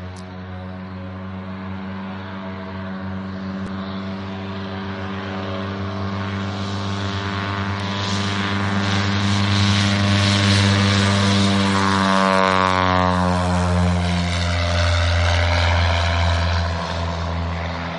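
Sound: propeller airplane engine running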